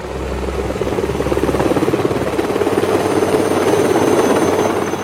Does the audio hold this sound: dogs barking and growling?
no